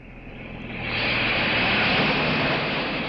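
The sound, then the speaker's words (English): A low-flying crop-dusting airplane planting crops over a vast ranch drones overhead, its engine roar swelling louder over the first second and then holding steady, with no voices. “You see ranches so big that the hands ride jeeps, talk to each other by radio, plant from planes.”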